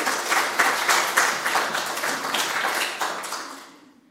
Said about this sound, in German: Ganz herzlichen Dank, dass ihr uns begleitet und den Gottesdienst so anders, so wunderbar gestaltet. Dankeschön. Ich glaube, ein Applaus ist das schon auch.